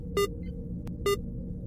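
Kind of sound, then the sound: signal or alarm, alarm sounding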